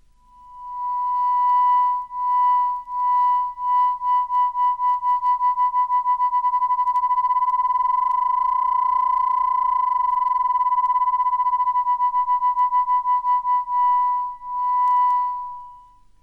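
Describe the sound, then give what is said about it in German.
Steady electronic sine tones sound together in unison, their loudness throbbing in beats that start slow, quicken into a rapid flutter, then slow again before fading out. No voices. “In der Akustik von jeher bekannt, ist der Sinuston in der Musik etwas Neues.”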